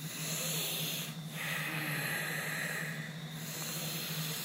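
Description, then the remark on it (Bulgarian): Deep, free, steady breathing, long airy inhales and exhales flowing into each other with only brief pauses, over a low constant hum. No one speaks. “Сега за около минута или две просто дълбоко свободно дишане.”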